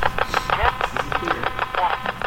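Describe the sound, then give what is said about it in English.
Radio static chopped into rapid, evenly spaced bursts as a ghost box, a modified radio, sweeps the AM band very quickly, flipping through radio signals and white noise, with brief garbled fragments of voices and tones flickering through the hiss. “It's basically a modified radio that's set to sweep the AM band very, very quickly.”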